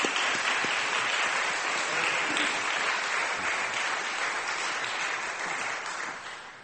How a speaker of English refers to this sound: And sometimes we don't recognize the people who are working the hardest on behalf of us. So can we please give him a round of applause?